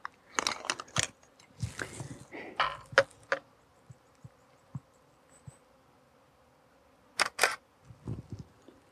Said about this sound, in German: Ja, ich werde jetzt mal ein Stück weitergehen und sicherlich zwischendurch auch wieder ein paar Fotos machen, so wie da jetzt gerade.